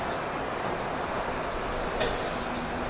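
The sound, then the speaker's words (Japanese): The Rapi:t Beta limited express train bound for Kansai Airport rumbles steadily as it arrives alongside platform 1 of a station, a continuous hissing roar, with a single brief clank near the end and no voices. “ただいま到着の電車は特急ラピートベータ関西空港行きでございます。”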